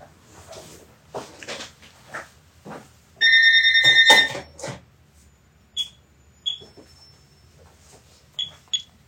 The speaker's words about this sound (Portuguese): tá tocando o telefone aqui na casa dos meus pais, você que tem saudade de um telefone tocar na casa, é isso aí. Se você, deixa só, eu não sei nem onde está esse telefone aqui, só um momento.